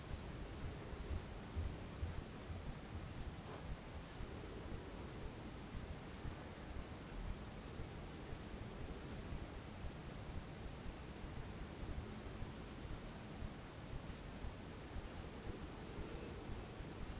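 A steady, soft wash of ocean surf fills the background, broad and hissing with little rise and fall, continuing evenly without any voices.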